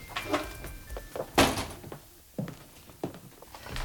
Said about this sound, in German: Er wollte trotzdem klingeln, als er bemerkte, dass die Tür nur angelehnt war. Vorsichtig stieß er sie auf.